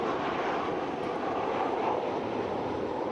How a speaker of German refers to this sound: Klingt wie ein Flugzeug. Ist aber kein Motorflugzeug.